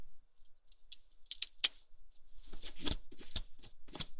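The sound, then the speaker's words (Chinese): A pen scrapes across synthetic lace-patterned stocking fabric in a series of quick, dry scratching strokes, a few sparse ones first, then a denser run of rasping swipes, fairly quiet with no talking, showing that the stocking does not snag. “你看这支笔，我在上面勾一下。”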